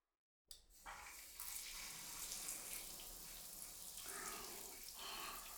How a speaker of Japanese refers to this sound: とりあえずシャワーで流しちゃいましょう。